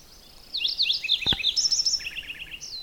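A Lincoln's sparrow sings a rich, bubbling warble in several distinct parts, high trilled phrases shifting in pitch, clear, with two sharp clicks partway through.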